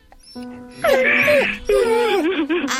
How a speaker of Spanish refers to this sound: Abue, mande, mi hermano está llorando. Yo no quiero que llore mi hermano.